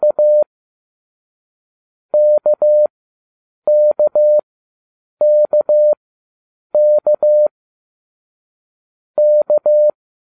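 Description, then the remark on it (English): A clean, steady electronic tone keys out the Morse letter M, two long dashes, repeated six times with short pauses between each pair. No voices, nothing else in the background. “Listen carefully to the Morse code for the letter M, as in Mike, and try to memorize the sound.”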